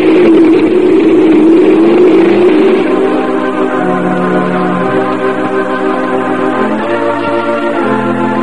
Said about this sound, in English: Come on, get on this motorcycle. Do what? Climb on a motorcycle behind me. Come on, get on.